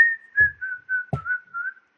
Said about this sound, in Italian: Te lo stavo fischiettando.